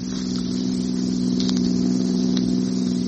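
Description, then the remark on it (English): A car engine drones steadily at a constant, fairly loud level as a car comes down the road, a low hum that neither builds nor fades, with no voices over it. “look out for that car coming down the road towards us.”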